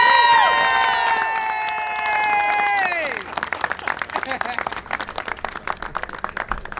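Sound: audience round of applause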